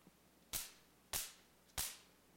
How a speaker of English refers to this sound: So bang the ground. Hit the ground. And King Joaz goes.